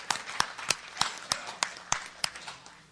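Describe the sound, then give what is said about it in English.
A steady run of about ten sharp claps at an even pace, fairly quiet, like a small audience applauding Vanda Pharmaceuticals, a silver sponsor of CCB's annual convention; no one speaks. “Let's hear a warm round of applause for Vanda Pharmaceuticals, who is one of our silver sponsors.”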